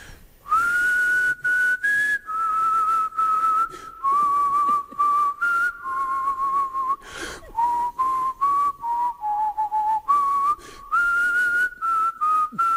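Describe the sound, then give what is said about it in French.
Someone whistles a steady, wandering melody for over ten seconds in place of hold music during a phone call to the bank BNP, the pure tone sliding gently up and down in pitch, clear with no talking over it. “Il n'y a pas de musique d'attente, donc je propose de siffler pendant ce temps-là, puisque la BNP n'a pas voulu en mettre.”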